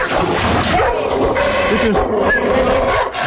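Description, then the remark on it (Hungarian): A dog snarls and growls ferociously in a chaotic struggle, with rough guttural noise and sharp bursts that suggest an attack with biting, continuous throughout. “Ez az eredeti kutya. Ez a kutya. És találjátok, hogy melyik pillanatban harapott meg, hallgassátok meg még egyszer.”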